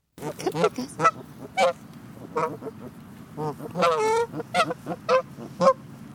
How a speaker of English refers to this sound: Those are the sounds of geese recorded in Ann Kroeber's backyard in Northern California.